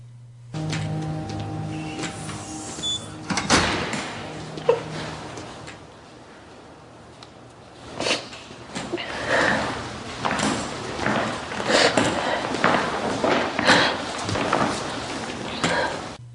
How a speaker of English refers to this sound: House walks back onto Ward 6. The door closes and locks behind him.